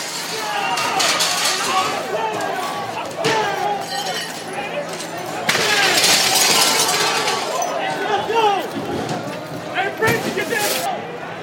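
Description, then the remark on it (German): Repeated crashes and clinks of window panes being smashed during a night of rioting and looting, with a loud, continuous crowd babble, sharp bright impacts scattered throughout and people shouting and talking. “Scheiben werden eingeschlagen, es wird geplündert.”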